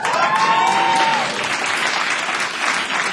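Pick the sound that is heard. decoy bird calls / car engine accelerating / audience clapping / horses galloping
audience clapping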